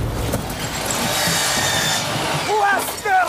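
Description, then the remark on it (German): Steady, raspy sawing through wood, fairly loud, as a studio is being rebuilt during the Christmas holidays, running for a few seconds before a voice briefly cuts in near the end. “Leute, es ist Weihnachten, ihr könnt jetzt nicht sägen.”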